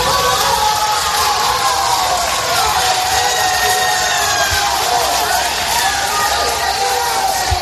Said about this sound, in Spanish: Estos aplausos podrían ser de reconocimiento, podrían ser una celebración por algo bueno, no sé, incluso podría ser la bienvenida a algún deportista llegando a un aeropuerto tras un triunfo internacional.